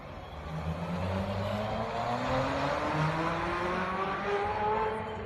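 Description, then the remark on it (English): A car engine revs in a parking lot with a steadily rising pitch, its droning tone climbing for about five seconds under a wash of rushing noise, fairly loud and continuous with no talking. “I need to hear it because they had it just revving in a parking lot.”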